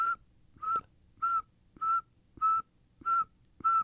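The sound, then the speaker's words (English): A person whistles an imitation of a northern saw-whet owl: a steady series of seven short, identical high toots, evenly spaced about every half second, clear and fairly loud. “But if you're going to make me imitate one, it would be the northern saw-whet owl, because it just sounds like.”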